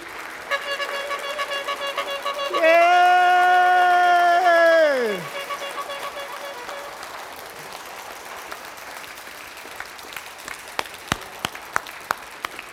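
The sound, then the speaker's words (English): A large church audience applauds steadily for its leaders, with a loud sustained whoop rising over the clapping midway before falling off; the applause then thins out into a few scattered, sharp claps. “And can we acknowledge and appreciate and affirm our leaders by clapping for them, cheering for them?”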